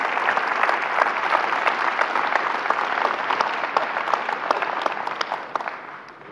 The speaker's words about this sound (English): All right, let's give him a round of applause there.